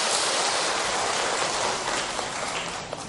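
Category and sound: crowd, audience applause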